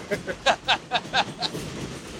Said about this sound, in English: I know it's noisy with the train